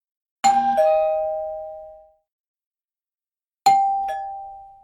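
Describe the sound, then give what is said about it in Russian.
A doorbell chimes twice, each ring a bright two-note ding-dong that falls in pitch and rings out before fading, with a pause of a few seconds between them and no voices. “Открыв дверь на первый звонок, мы получили в дар лоток яиц.”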